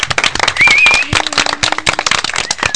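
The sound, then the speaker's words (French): A CM1–CM2 class of children from the Guillaume-Louis school applauds themselves on stage after performing, many hands clapping in a dense, steady patter that stays loud throughout, with a brief high-pitched cheer rising above the clapping. “Vous pouvez vous applaudir, bravo.”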